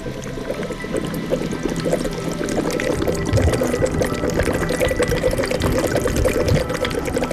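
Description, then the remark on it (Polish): A hot mud pool, formed where water heated by volcanic lava mixes with earth and hidden by thick steam, bubbles and gurgles steadily, a thick, continuous churn of popping bursts that holds a fairly even loudness throughout, with no voices. “Słyszę, że coś bulgocze, ale tego nie widzę, bo para mi zasłania.”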